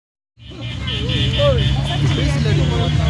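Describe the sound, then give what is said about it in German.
Busy stop-and-go street traffic in the narrow lanes of the main bazaar in Leh fades in and settles into a steady rumble of idling and creeping cars, buses and motorcycles, with people pushing between them and indistinct voices murmuring throughout. “Menschen schieben sich zwischen Autos, Bussen, Motorrädern im Stop and Go durch enge Gassen.”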